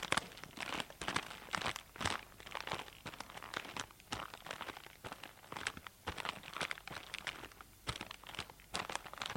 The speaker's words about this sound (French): J'adore marcher sur les feuilles mortes et entendre le bruit de leurs craquements sous les pieds.